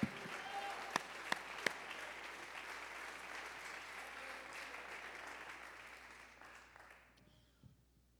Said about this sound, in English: If you serve that God, you ought to give him praise right now. Somebody clap your hands right now.